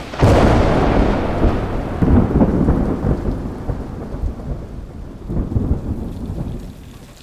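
hailstorm with thunder

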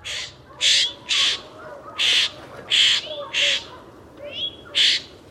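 florida scrub jay calls

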